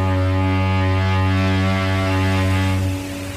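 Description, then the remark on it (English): The horn of a ferry bound for Bilbao sounds one long, deep blast, steady and loud with a rich, buzzing tone, holding for about three seconds before dropping off abruptly. No voices are heard. “Passions are beginning to build as the boat slowly but steadily reaches its destination.”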